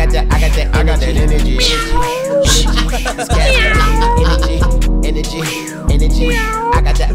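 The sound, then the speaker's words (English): A voice imitating a cat lets out several drawn-out, rising-and-falling meows within a rap song over a steady, thumping music beat, loud throughout. “Throw a little meow in there.”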